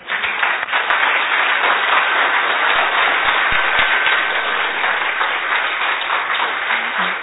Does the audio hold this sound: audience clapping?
yes